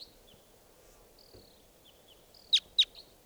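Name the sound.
wild bird calling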